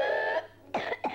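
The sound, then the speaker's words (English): Whooping cough (pertussis): a drawn-out, high-pitched whooping breath followed by two sharp, harsh coughs in quick succession, loud, with no talking. “What you just heard is an example of whooping cough, which is also called pertussis.”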